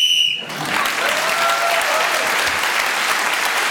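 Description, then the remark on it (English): A short, shrill referee's whistle blast ends Clement Freud's round in a panel game as he speaks on men with moustaches, immediately followed by loud, sustained applause from an audience that continues to the end. “Clement Freud, being as the whistle went, has now leapt forward.”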